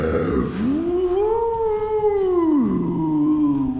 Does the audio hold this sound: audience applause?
no